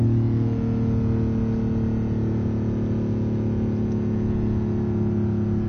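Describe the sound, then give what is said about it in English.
A sports car engine drones steadily during a test drive in Midrand, a deep rumbling hum with a smooth, constant pitch and no talking over it. “It's a beautiful sound, isn't it?”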